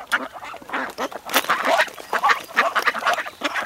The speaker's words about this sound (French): Here comes the duck's family. Oh là là, ils ont mangé tout mon goûter.